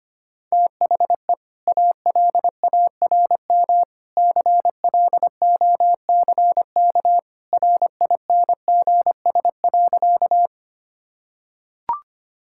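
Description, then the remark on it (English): An alarm clock beeps in rapid bursts of a steady, mid-pitched electronic tone for about ten seconds as a morning wake-up alarm, then falls silent before a single sharp click. “The alarm clock rings.”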